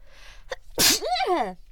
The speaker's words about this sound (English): Oh wait, I'm about to sneeze.